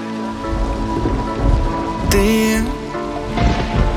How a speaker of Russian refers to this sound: Дождь, падают капли с неба на крышу, на мокрый асфальт.